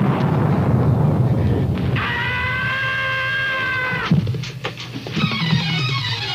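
A loud, rumbling thunder crash rolls through, with a bright whining tone rising in the middle before sharp crackling bursts near the end. No voices are heard.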